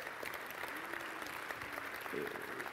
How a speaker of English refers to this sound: And it is so great to be able to celebrate with these seniors today. Can we give them a round of applause one more time?